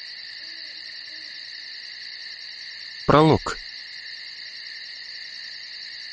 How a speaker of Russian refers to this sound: Глухо ухнув, ночная птица всего лишь обозначила свое присутствие, совершенно не имея никаких иных намерений.